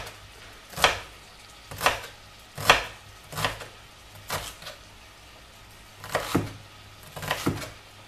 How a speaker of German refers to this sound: Oh, ups, das habe ich ein bisschen zu tief eingeschnitten, aber das macht nichts. Das kriege ich noch hin, dass wir das schön klein geschnitten bekommen.